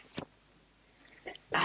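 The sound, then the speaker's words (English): A short, sharp sneeze bursts out, a quick noisy blast of breath after a brief lull with a faint earlier catch of breath. “Bless you.”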